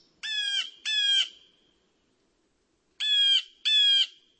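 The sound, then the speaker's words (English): Four loud, harsh calls from birds right outside a window come in two quick pairs separated by a long pause, clear with no voices. “me to appreciate the little things, like the birds right outside of our window.”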